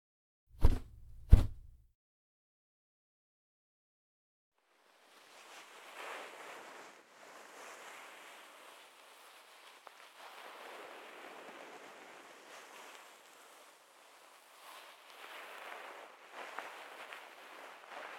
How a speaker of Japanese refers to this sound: 泡がだいぶ減ってきましたね。最後に温かいタオルでお耳の泡を拭き取っていきます。